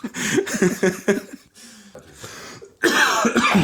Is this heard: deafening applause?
no